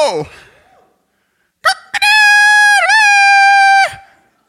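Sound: rooster crowing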